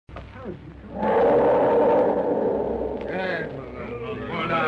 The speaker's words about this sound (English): Elephant much frightened. Him no like this place. Him yell.